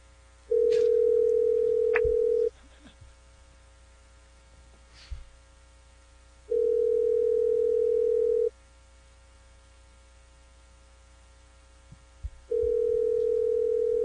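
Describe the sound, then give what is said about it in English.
A steady telephone ringback tone sounds in long two-second bursts separated by pauses of about four seconds, repeating three times with no one speaking, as an outgoing prank phone call waits to be answered. “I'm going to prank phone call somebody.”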